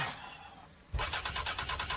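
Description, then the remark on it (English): A motorbike engine splutters as it is cranked, failing to catch: after a second of quiet hiss, a loud rapid chugging starts abruptly and pulses unevenly without settling into a steady idle. “It's just one of the delights of motorcycling. I'll soon have it sorted.”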